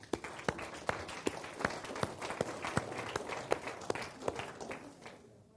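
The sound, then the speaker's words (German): An audience applauds, many hands clapping in a dense, irregular patter with sharper individual claps standing out, holding steady for several seconds before thinning out and fading at the end. “Euer Applaus.”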